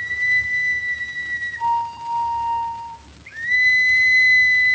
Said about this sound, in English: That's Joe's whistle.